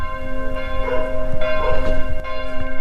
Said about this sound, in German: In Hunsbach oder Hunsbach, wie die Einheimischen sagen, läuten die Glocken der protestantischen Kirche irgendwie besonders lange.